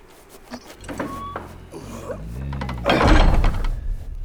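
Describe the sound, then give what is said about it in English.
A heavy, icicle-edged door is shut by Peter, High King of Narnia. It grinds and creaks as it swings, then closes with a deep, resonant thud followed by a low rumbling echo. No voices are heard. “Peter, High King of Narnia, shut the door.”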